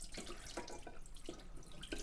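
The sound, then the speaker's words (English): Water sloshes and splashes in a bowl of pre-soaked rice as a hand swirls through it, with several short wet bursts in a loose rhythm, moderately loud, no talking. “And I'm going to do one more swirl. Just because it's very satisfying to do that. I do it with hand.”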